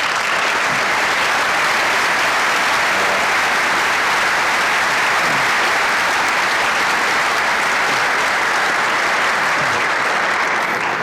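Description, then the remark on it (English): A large audience at an Indianapolis civic address applauds the owners of the Down Home Cooking business steadily for about eleven seconds, a dense, loud wash of clapping that stays even throughout with no voices breaking through. “will you please stand and be applauded for your entrepreneurial spirit?”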